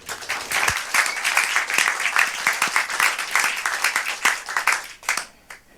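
A crowd breaks into steady applause, many hands clapping in a dense, continuous patter that holds for several seconds before tapering off near the end.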